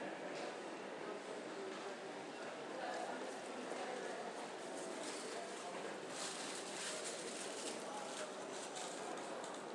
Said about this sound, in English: Somebody walking back up the platform there, presumably wondering what's happening. You can hear some staff radios behind.